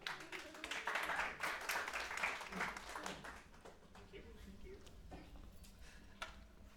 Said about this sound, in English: So let's get a round of applause for our volunteer.